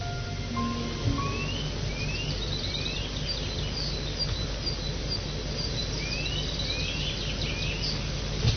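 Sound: birds singing outdoors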